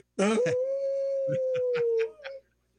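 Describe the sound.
A person lets out a long, sustained wolf-like howl on a radio show segment supported by Howling for Wolves, rising sharply then holding a steady pitch for about two seconds before fading, with faint clicks and other voices faintly underneath.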